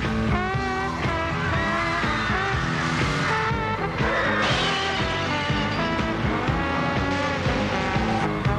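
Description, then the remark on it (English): A car drives hard through the lobby of the state office building at Daly Plaza in Chicago during a film shoot, its engine loud and steady, with high tire squeals and skidding throughout, then brakes to a stop; no one speaks. “They stopped good. Brakes worked real good.”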